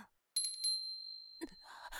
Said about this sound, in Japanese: またあの鈴の音か。